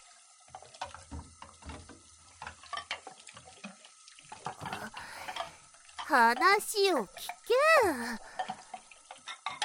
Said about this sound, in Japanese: 皿洗いを進めるんじゃない。いや、食器洗いをしてくれて非常に助かっているけどもじゃな。